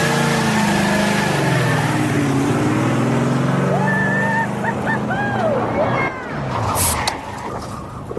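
The engine of race car number 88 roars and revs, its pitch climbing and falling in loud bursts before the car pulls away and the sound eases off toward the end.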